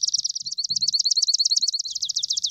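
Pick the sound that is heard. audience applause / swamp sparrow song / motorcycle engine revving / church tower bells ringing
swamp sparrow song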